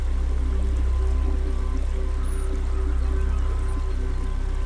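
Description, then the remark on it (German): A river babbles steadily and without pause, a continuous, even wash of flowing water at moderate loudness with a faint low hum beneath and no voices. “Das gleichmäßige Plätschern des Flusses beruhigt uns.”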